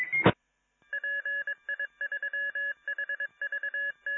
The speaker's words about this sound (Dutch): Kijk, daar gaat de telefoon weer. Ik moet hem even nemen.